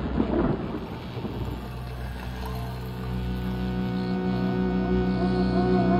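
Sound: thunder clap sound effect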